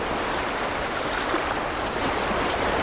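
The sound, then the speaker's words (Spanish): A steady, hissing wash of sea waves on the shore, continuous, with no distinct crashes standing out and no voices. “Gretel pasea por la orilla del mar.”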